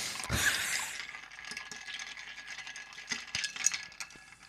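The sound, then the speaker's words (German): Old leftover ice cubes rattle and clink inside a drinking glass that was drunk from quickly, opening with a bright knock and then scattered sharp ticks and jangles, with a short burst of clattering near the end. No one speaks. “Da hast du so schnell getrunken, dass noch alte Eiswürfel da waren.”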